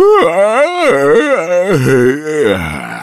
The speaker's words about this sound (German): Mittags wacht das Faultier auf, hebt den Kopf und lässt ihn sinken. So beginnt sein Tageslauf. Dann gähnt es sehr. Noch viel mehr.